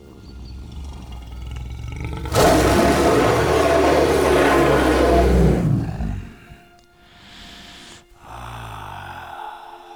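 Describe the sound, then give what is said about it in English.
A person imitates a lion with one long, loud, rasping roar that swells for several seconds and then fades, followed by quieter breathy noises. “I am going to roar. You had better put your fingers in your ears.”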